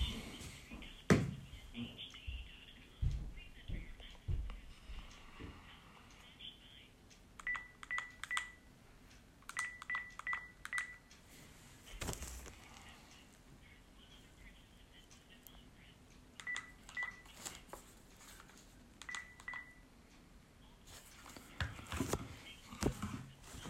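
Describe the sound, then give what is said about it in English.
Telephone keypad tones beep in two quick clusters of short, evenly spaced presses as someone dials to call back a phone line after the phone died, heard clearly over a low hum of background noise and occasional clicks. “We're just going to pause a second and call back the phone line.”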